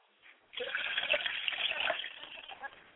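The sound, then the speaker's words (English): Water pours steadily into a glass being dedicated to a mother's spirit, after a brief quiet moment, a continuous splashing trickle that holds for a couple of seconds before tapering slightly. “I want to dedicate a glass of water to my mother's spirit, and I say, Ashe.”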